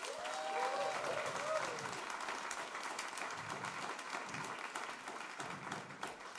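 An audience applauds steadily for several seconds, a dense wash of many hands clapping, with a few brief whoops or cheers rising near the start.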